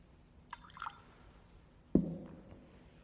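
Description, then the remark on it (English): A few faint drips of water fall into wine in a chalice, followed by a brief, slightly louder splash or tap, with no talking. “Through the mystery of this wine and water, may we share in the divinity of Christ, who humbled himself to share in our humanity.”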